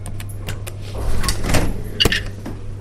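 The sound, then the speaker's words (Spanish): A heavy laboratory security door slides open with a series of mechanical clunks and a brief whirring sweep, over a steady low electrical hum; no one speaks. “Cuando abren la puerta, tengo la sensación de estar en una película.”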